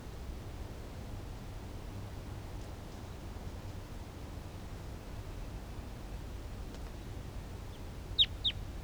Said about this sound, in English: Wild bird in the distance.